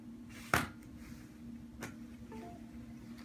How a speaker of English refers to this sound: And now we're going to detach the keyboard from the clipboard screen.